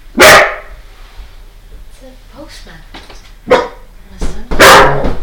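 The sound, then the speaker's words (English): Dogs bark loudly in a few sharp bursts, one at the start and a strong cluster near the end, with quieter yips and a voice murmuring in between. The household dogs are barking at a visitor arriving at the front door on a Sunday. “Yeah, and our dogs are the welcoming committee.”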